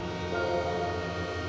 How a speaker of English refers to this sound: I hear the train coming.